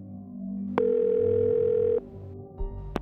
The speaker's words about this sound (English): the Levys picked up the phone and dialed